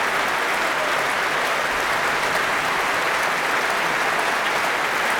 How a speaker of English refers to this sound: Thanking the orchestra, who are on their feet, acknowledging the applause.